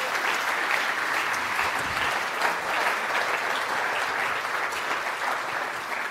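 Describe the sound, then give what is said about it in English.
Sustained audience applause, a round of applause for a new member of staff, fills the whole stretch, a dense, steady wash of many hands clapping with no pauses and no voices rising above it. “And the fourth thing is we need to give a big special round of applause to a new member of staff.”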